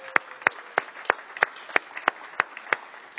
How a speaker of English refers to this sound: And here's the newlyweds coming in. They're getting here a little late. So just clap your hands.